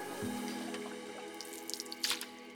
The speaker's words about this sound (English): Rita swept the mop across the tile.